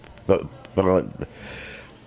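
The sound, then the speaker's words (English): A loud sneeze: a quick voiced catch of breath, then a forceful burst that trails off into a soft, breathy hiss. Nobody speaks. “excuse me. Bless you.”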